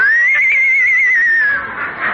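horse neighing

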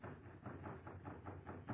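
knocking on a door

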